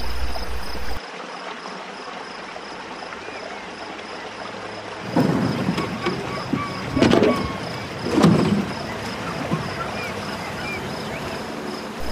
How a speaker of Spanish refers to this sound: El sonido del agua, tan calmado. Una noche arrullada por las ranas y las libélulas. Un silencio se escucha.